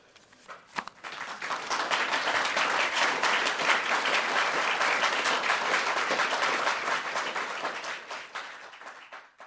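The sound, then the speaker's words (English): A courtroom full of people bursts into sustained applause after a statement, dense clapping swelling quickly and holding for several seconds before tapering off slightly near the end, with no speech over it. “That is the first time that we ever heard the court break into applause”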